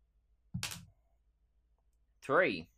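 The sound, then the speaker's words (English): A small green D4 die is rolled, clattering briefly across a surface in one quick rattling burst. Silence follows, then a short voiced exclamation. “He's got a green D4 he's using today, friends.”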